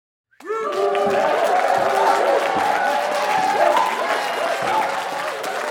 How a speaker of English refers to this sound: Cheers and applause were piped through the studio speakers. There was a live audience watching in real time, but for safety reasons, they were kept in a separate room from the arena where the contestants were competing.